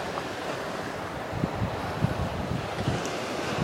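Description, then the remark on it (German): A steady roar of ocean surf breaking below sea cliffs at sunset, with a constant rushing wash and occasional low thuds of waves hitting, mixed with some wind buffeting the microphone. No voices. “Der Gesang der Wellen.”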